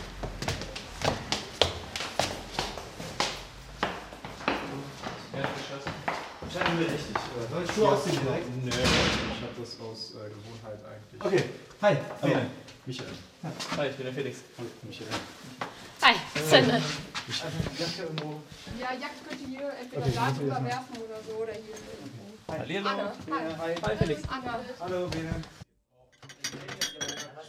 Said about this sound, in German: Ja, das, was man hier im Hintergrund so scheppern hört, sind die letzten Vorbereitungen für den Hauptgang. Das heißt, die waren noch nicht komplett fertig, als ihr angekommen seid.